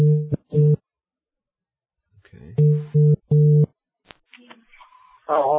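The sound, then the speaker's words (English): Loud electronic ringing tone of an outgoing phone call from Australia to a number in South Africa, repeating in short bursts, a pair early and three more after a pause, with a brief spoken word and faint line noise in between. “I think that means it's ringing.”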